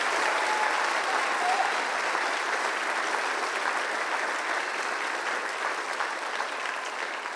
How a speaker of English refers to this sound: First and foremost, I think we should probably thank the kids one more time. Why don't we give the kids a big round of applause? Yes.